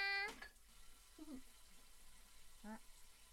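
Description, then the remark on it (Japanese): Cold tap water runs in a steady, soft hiss throughout, as if hands are being washed at a sink, with a few short voiced murmurs breaking in near the start and end. “うー、水が冷たい。”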